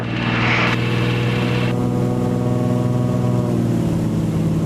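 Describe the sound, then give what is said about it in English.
A small plane's engine throttles up for takeoff on a harbor seal survey flight, rising to a loud, steady droning roar with a deep harmonic hum, with a rushing hiss over the first second or so. No one speaks. “pushes the throttle forward.”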